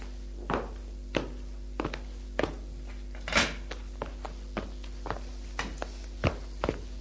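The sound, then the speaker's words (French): Someone sits down on a chair facing another person, near a table: a series of soft footsteps and wooden knocks, with a heavier thump near the middle, over a low steady hum. “Et Michel va s'asseoir sur la chaise qui est en face d'elle.”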